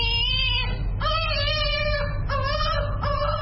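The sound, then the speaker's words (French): A 4-month-old baby cries in four loud, high-pitched wailing bursts with short breaths between them while receiving a second polio vaccine at the Chantal Biya Foundation hospital in Yaoundé, over a steady low rumble of background noise. “Le bébé de 4 mois pleure en recevant son deuxième vaccin contre la polio à l'hôpital de la Fondation Chantal Biya à Yaoundé, la capitale.”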